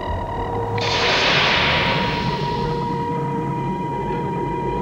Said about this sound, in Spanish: Están estallando minas. Están en guerra en este planeta. Oye, no hay ninguna guerra. No sí. Se oyen disparos. Tal vez solo son los depósitos de algún mineral.